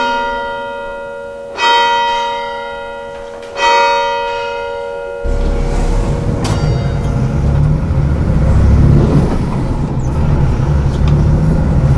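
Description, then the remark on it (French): Two ringing bell strikes fade away, then a steady, loud engine rumble of a bus takes over, riding early in the morning toward Pointe des Poulains in Sauzon, on Belle-Île-en-Mer, France, in July 2014, with a continuous low drone and road noise and no talking. “C'est de bonne heure le matin que nous prenons le bus à destination de la Pointe des Poulains sur la commune de Sauzon, au nord de l'île.”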